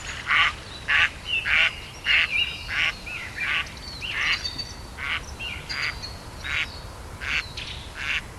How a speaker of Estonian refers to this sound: Läksin mere äärde. Aga sealgi peeti kontserti. Siin olid peaesinejad kajakad oma kädina ja karjumisega. Lavale astusid ka prääksuvad pardid.